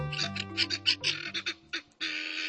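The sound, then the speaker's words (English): A rapid, raucous series of harsh, grating calls from helmeted guinea fowl, loud, repeating in choppy bursts before a sustained noisy chorus takes over. “Helmeted guinea fowl are sometimes kept as ornamental birds in zoos and farmyards around the world.”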